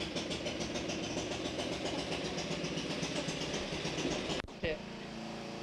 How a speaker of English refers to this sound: I'm going to move this a little bit closer because of the lawnmower. That old lawnmower.